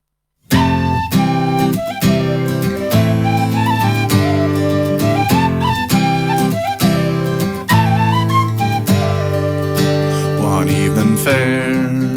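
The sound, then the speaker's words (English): A lively Irish folk tune with a bright tin whistle carrying an ornamented melody over steady strummed guitar chords, played continuously at an even volume with no voices. “son fils Simon qui joue également de la guitare et moi-même au tin whistle”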